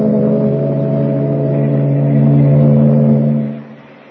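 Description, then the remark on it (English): A ship's engine drones steadily with a deep, throbbing hum and layered tones as the ship clears the harbor and heads for the open sea, swelling slightly before dropping away near the end. No voices are present. “Meanwhile, three decks above, well out of earshot, Clark Kent waits for the boys at the shuffleboard court as the ship clears the harbor and heads for the open sea.”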